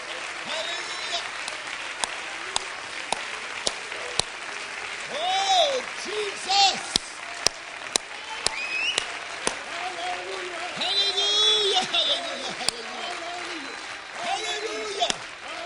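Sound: audience clapping hands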